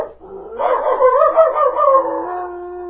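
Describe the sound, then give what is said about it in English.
A dog squeezed among a flock of sheep between fences lets out one long, drawn-out bark that wavers like a howl, fairly loud, stretching over two seconds with no one talking. “I barked some more.”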